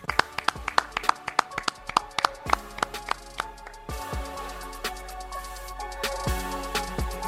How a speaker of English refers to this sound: Clap it up.